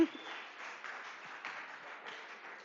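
Steady applause from an audience, a dense wash of many hands clapping at an even, moderate level for a few seconds without fading.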